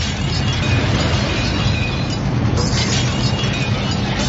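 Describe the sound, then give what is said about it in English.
The Royal Bank of Canada building, with its gold glass, collapses in a loud, continuous roar, deep rumbling debris underneath and glass shattering and tinkling throughout, with no voices heard. “Oh, my, not all the Royal Bank of Canada. All that beautiful gold glass.”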